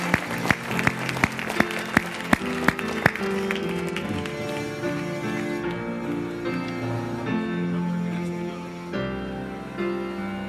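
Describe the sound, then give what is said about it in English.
A crowd bursts into applause as a clap for God, with sharp rhythmic claps standing out over the roar for a few seconds, then it fades as sustained keyboard music swells and carries on. “But how about one clap for God right now? Just give it up.”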